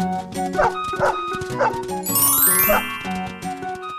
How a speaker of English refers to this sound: At home, he's a good watchdog and barks whenever someone is at the door.